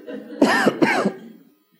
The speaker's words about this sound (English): I really want to cough right now.